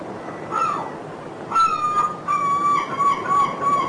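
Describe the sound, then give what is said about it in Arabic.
Gulls squabble over a caught puffin, one gull taking the prey from another, with harsh, repeated squawks and cries that overlap in quick bursts, moderately loud over a low outdoor hiss. “وبعد عراك بسيط بينهما يحصل النورس الآخر على الفريسة ويمضي بها هاربا.”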